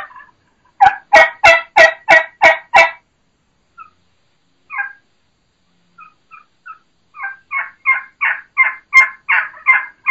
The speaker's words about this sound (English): There's your classic high pitch, fast pace, your normal, what normal people do, what normal hunters are using, just that normal, standard, plain yelp.